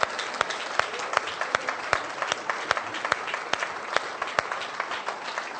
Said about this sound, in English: And therefore, men, I want you to give them the biggest clap you ever gave a lady. Et je veux que les hommes puissent applaudir le plus fort possible à toutes ces femmes qui sont là.